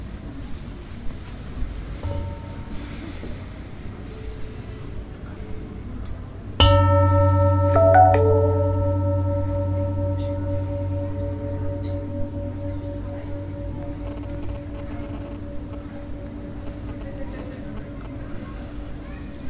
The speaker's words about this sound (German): Aber vorher hören wir nochmal die Glocke.